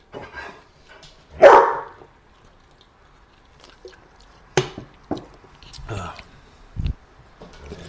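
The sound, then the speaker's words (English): A dog gives one loud, sharp bark early on, followed by quieter scattered clicks and soft wet, squishy mouth sounds. “What, dog?”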